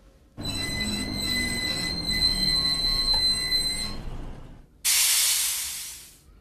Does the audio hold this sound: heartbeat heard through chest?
no